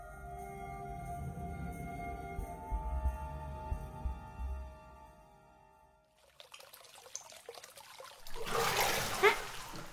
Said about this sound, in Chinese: 谁呀？这么没素质，水都溅到我脸上了。